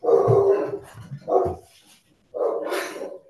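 Two dogs, one big and one small, bark loudly at the mail carrier ringing: a deep bark followed by a shorter one, then after a brief pause a higher, yelping bark from the smaller dog.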